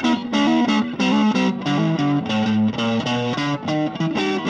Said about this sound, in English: That dirty, gritty, fuzzy sound, that's distortion.